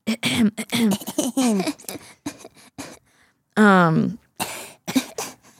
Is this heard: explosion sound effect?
no